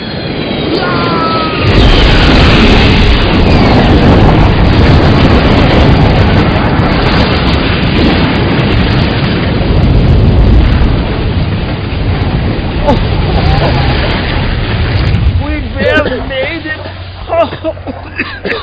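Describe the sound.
A shot-down plane crashing toward the speakers roars in as a loud, broad rumble that holds steady for over ten seconds, then subsides as voices start talking.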